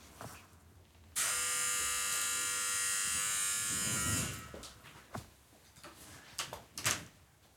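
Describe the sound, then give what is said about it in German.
A door being opened after the doorbell rang: a loud, steady electric buzz holds for about three seconds, then fades into a few sharp clicks and soft knocks, with no one speaking. “Ich mach mal kurz die Tür auf.”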